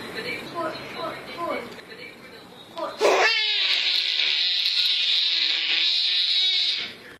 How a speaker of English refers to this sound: Finally today, little baby, big scream.